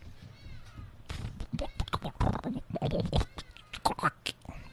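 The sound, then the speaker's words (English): A voice imitates a stomach rumbling from hunger, making fairly loud gurgling and growling noises in rapid, irregular bursts for a few seconds. “That's my tummy rumbling.”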